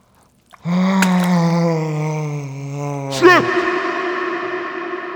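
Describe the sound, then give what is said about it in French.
A hippopotamus yawns in a cool, muddy pond with a long, deep, droning groan that ends in a warbling upward twist, then fades into a lingering echo. It is loud, with no talking. “C'est un hippopotame qui baille dans une mare fraîche et boueuse.”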